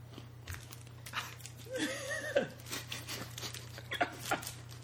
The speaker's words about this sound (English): You picked the perfect opportune time to bite something. I'm sorry, I can't help that Cliff Bars are so crunchy.